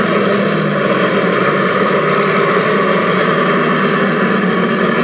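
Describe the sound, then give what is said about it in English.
The engine of a heavy Austin truck idles as the truck stops, in a steady, unbroken drone, with a low rumble and a faint tonal hum layered over dense mechanical noise. It stays at one even loudness throughout, with no voices. “Another Austin truck stops for the...”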